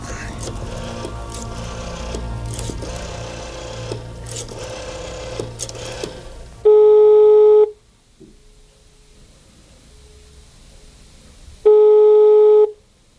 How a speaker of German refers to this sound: Zielstrebig griff der erste Detektiv nach dem Telefonhörer und rief in der Zentrale an.